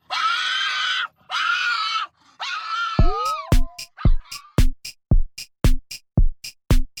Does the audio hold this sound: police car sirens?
no